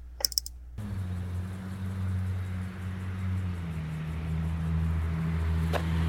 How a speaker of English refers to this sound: And that's a car.